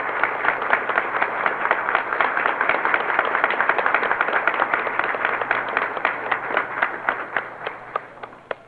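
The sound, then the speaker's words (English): A large crowd of some 300 or 400 people applauds the President steadily indoors in a packed first-floor mezzanine at a building entrance, a dense wash of many hands clapping with sharper individual claps popping out as it thins toward the end. “Some 300 or 400 people, it's packed to capacity, have seen the President now and are applauding him vociferously, as you can hear.”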